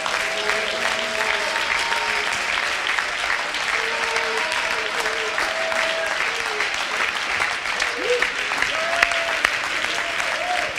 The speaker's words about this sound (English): Just get uncomfortable for a second and clap your hands with all of your might.